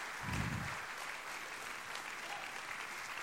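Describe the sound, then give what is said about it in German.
An audience claps steadily for three people who shared their testimonies, a dense wash of overlapping handclaps at an even level, with a brief low thump near the start and no one speaking. “Können wir kurz nochmal den dreien einen Applaus geben, die so mutig waren, ihr Zeugnis zu teilen?”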